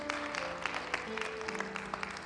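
An audience claps together as a clap offering to the Lord, a dense, steady burst of applause, with a few soft sustained musical tones humming underneath and no voices standing out.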